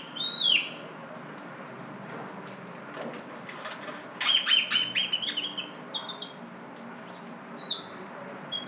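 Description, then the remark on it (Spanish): A resident city bird species that eats carrion and garbage, ranging from the southwestern United States to northwestern Peru and northwestern Venezuela, calls several times over a steady background hum: one sharp squawk at the start, then a cluster of harsh, chattering notes midway and a few scattered chirps near the end. “Alas y cantos. Aves de la ciudad.”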